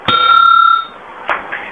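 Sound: bell chime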